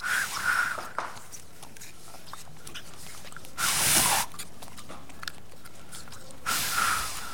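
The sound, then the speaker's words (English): An anteater eating its lunch, poking its very long tongue into an ant mound to slurp ants: soft wet clicks and smacks run throughout, broken by three louder, breathy, hissing exhaling bursts at the start, middle and end. No one speaks. “So this is the sound of an anteater eating its lunch.”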